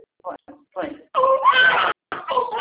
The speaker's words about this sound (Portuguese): Tadinho, tá chorando. Né? É minha filha,